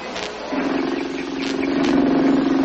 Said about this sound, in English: Wish our car performed half as well. What's the trouble? Oh, idles like a vibrating machine. Stalls all over the place.